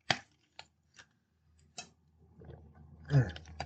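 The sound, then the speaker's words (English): Drinking: a few short wet clicks and sips spaced about half a second apart, then a louder gulping swallow with a breathy exhale near the end. “I had to wet the whistle there, my friends.”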